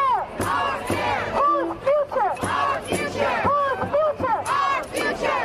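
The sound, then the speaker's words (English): A loud crowd of climate protesters blocking traffic around Times Square in New York City chants in unison, many voices shouting rhythmic phrases in steady, repeated bursts roughly once a second, with no single voice standing out, as traffic backs up. “A large group of climate protesters blocked traffic around Times Square in New York City today.”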